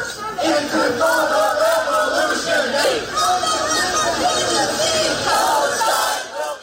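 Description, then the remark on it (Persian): A large crowd of student protesters at American universities shouts and chants together in a loud, sustained roar, voices overlapping in rhythmic, rising and falling waves for several seconds, protesting Joe Biden's handling of the war in Gaza and calling for a quick ceasefire. “فریادهای مانند این حالا به شکل قابل توجهی در مراکز آموزشی آمریکا شنیده می‌شود.”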